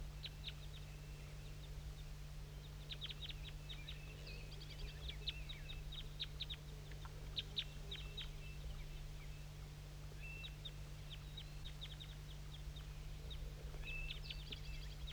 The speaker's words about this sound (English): And there's some wild birds I'm going to point to that are down still in that oak tree. Little guys.